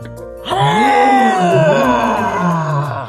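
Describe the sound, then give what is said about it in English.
A voice imitates the roar of Lion, an animal-cracker lion character in a story: one loud, drawn-out growling cry that starts abruptly, wavers in pitch, and holds strong for nearly three seconds before easing slightly at the end. “Lion took a deep inhale and let out a loud and mighty roar.”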